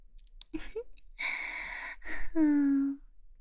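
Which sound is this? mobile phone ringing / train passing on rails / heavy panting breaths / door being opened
heavy panting breaths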